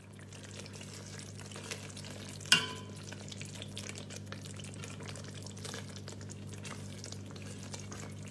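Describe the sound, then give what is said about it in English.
Indo-Sichuan chili sauce being made crackles and sizzles steadily in a hot pan, a dense hiss of tiny pops over a low hum, with one sharper clatter a few seconds in. No one speaks. “Here you can hear the crackling sounds of Indo-Sichuan chili sauce that Nick is making.”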